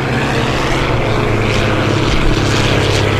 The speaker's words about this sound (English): A horn is blowing, and they begin charging into each other. It's hard to visualize, which is why you have to go, but listen now to the clangs of contact over the noise of the straining diesel engines as the announcer calls the action.